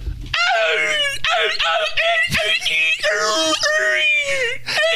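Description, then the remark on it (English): A person does a seagull impression, letting out a run of high, strained, whiny cries in quick bursts, loud, with breathy wavering squeals that sound more pained than birdlike. “And of course, we're all going to go around the room now and do our best seagull impression, right?”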